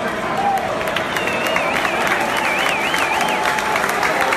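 A large stadium crowd at Fenway Park applauds in a sustained ovation as Baltimore Orioles center fielder Adam Jones comes to bat against the Boston Red Sox, a dense steady roar of clapping and cheering. A wavering high whistle rises above it for a couple of seconds.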